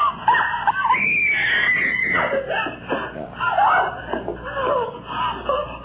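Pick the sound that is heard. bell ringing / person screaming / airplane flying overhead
person screaming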